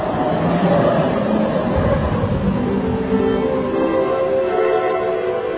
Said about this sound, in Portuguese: Aqui do hotel onde eu estou, que fica próximo ao centro novo da cidade, que é a cidade nova, vamos dizer assim, eu vou ao centro velho em poucos minutos, e nesse bom e velho bonde. Vamos experimentar esse passeio.